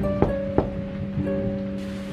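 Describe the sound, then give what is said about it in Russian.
Steady rain hisses continuously beneath a low, even hum during a thunderstorm around a castle, with a few dull thuds of thunder breaking through near the start. No voices are heard. “Бедная девушка оказалась одна среди всей этой бушующей непогоды, но даже под дождем она казалась очень красивой и изящной.”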